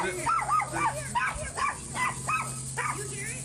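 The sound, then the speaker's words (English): Dogs bark in a quick, steady series of about seven high, yelping barks, loud, over a low constant background hum. “Towards the end of the clip, we also see the dogs start barking, almost as though they sense something's not quite right.”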